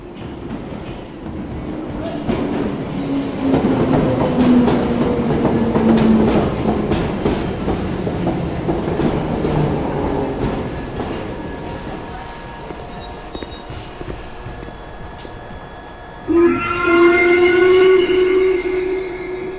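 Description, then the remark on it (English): A train rolls along the rails with a steady, loud rumble and drawn-out metallic wheel squeals that slowly fade, then a sharp tonal blast sounds near the end. No one speaks. “Waiting for a train, but he wisely chose not to board it.”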